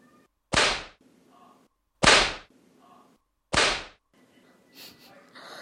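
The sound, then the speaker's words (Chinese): Three loud, sharp whip cracks snap out one at a time, evenly spaced about a second and a half apart, each with a short ringing tail, over a quiet background with faint breathing-like noise. “光听到鞭子的声音，肉棒就有反应呢。”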